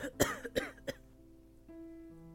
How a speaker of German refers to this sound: Auf meinem Weg hinaus begann … trocken zu husten.